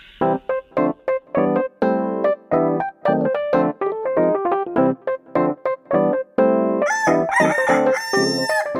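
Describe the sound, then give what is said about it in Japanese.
A rooster's crow chopped into a fast, rhythmic string of short, loud harmonic bursts, played as a show's opening jingle, turning brighter and higher-pitched near the end. No one speaks. “全国のコンビニユーザーの皆さん、クックドゥドゥルドゥウシーです。”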